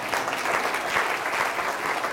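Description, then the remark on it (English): An audience breaks into steady applause for a man thanked for a sermon, a dense wash of many hands clapping at an even level throughout, with no voices standing out over it. “Came back to my office, and I thought, you know, yeah, you can give him applause.”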